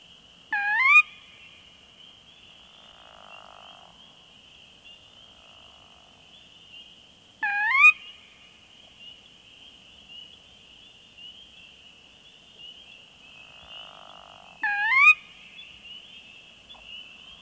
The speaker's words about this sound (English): Moving on to freshwater marsh, we are certain to find North America's most common rail, the sora, whose rising kerwee is heard here, along with the nighttime calls of spring peepers and pickerel frog.